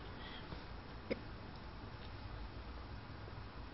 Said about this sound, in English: I've got the hiccups, so if I make funny noises, that's what's going on. That last drink of water was fatal.